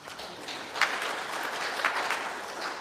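A crowd applauds with steady, dense clapping that stays fairly even throughout, with a few sharper claps standing out, and no one speaking over it.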